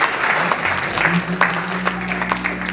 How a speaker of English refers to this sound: Give the fathers a big round of applause today.